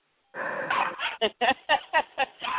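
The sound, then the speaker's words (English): A dog barks: one drawn-out, strained bark, then a quick, fairly steady run of about six short, sharp barks, loud and on their own with no talking. “Oh, still barking.”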